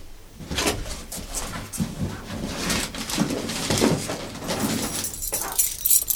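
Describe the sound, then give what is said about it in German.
A bunch of three keys jangles and clinks in a steady stream of bright metallic rattles lasting several seconds, with no one speaking. “Das hier. Herr Schlüsselbund.”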